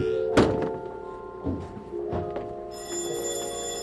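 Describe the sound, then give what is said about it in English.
Several hollow knocks on a back door, spaced unevenly, with a sustained ringing, bell-like tone humming underneath and brightening toward the end. No one speaks. “Somebody at the back door.”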